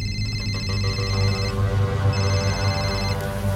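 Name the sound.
telephone ringing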